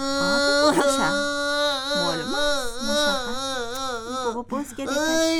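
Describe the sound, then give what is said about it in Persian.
A voice acting as a sock imitates whimpering and crying, with wavering, high-pitched sobbing wails rising and falling continuously for several seconds, fairly loud, with a brief catch of breath near the end. “جوراب جان، من کدام گپ بدی زدم؟ من معذرت میخوام، گریه نکن.”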